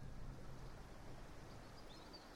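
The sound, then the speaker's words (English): A river flows steadily, played as background ambiance to help concentration on work: a continuous low, rumbling rush of water with a soft hiss on top. The sound stays even throughout, with no voices or breaks. “I will start with a flowing river sound.”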